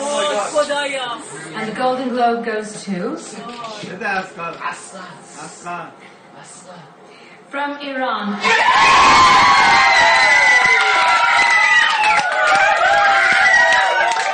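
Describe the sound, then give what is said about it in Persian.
Voices talk for several seconds, then a crowd of Iranians abruptly erupts into loud, sustained celebratory cheering at Asghar Farhadi winning the Golden Globe for A Separation, full of high shrieks, whoops and yells that continue without a break to the end. “و این یکی از انبوه نمونه‌های شادی ایرانیان در سراسر دنیا در واکنش به دریافت جایزه اصغر فرهادی است”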